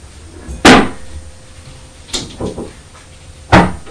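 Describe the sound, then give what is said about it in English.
A cupboard door under the stairs is opened and shut several times, giving sharp wooden knocks and thuds at irregular intervals: two loud bangs with a softer pair of clunks between them, with no talking. “No, we've got to keep that cupboard closed”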